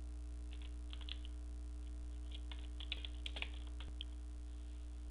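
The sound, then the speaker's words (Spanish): Soft, irregular clicks of typing a title for a concept map on a computer keyboard, tapping out in short bursts over a low, steady background hum, with no voices. “Lo selecciono y escribo el título.”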